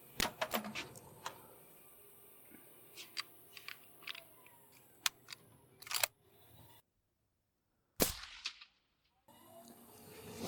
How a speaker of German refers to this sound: wir sollten dann nochmal auf den laufenden Keiler schießen, damit wir eben auch die Bewegung nochmal mit dem Schalldämpfer drauf bekommen